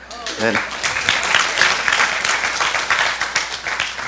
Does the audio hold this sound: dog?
no